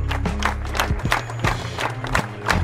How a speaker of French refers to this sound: Des fleurs blanches dans la Loire. Un symbole de paix qui donne le ton de l'hommage à Steve Maya Canisso samedi matin à Nantes. Pas de prise de parole, mais de longues minutes d'applaudissements.